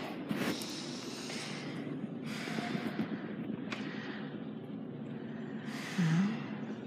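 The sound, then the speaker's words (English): Heavy breaths pushed through the nose, fairly loud, in a slow series of four or five airy inhales and exhales with short pauses between them. “Breathing.”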